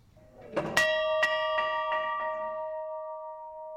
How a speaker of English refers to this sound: The old Winslow school bell's now an artifact. It hangs at Winslow City Hall and Museum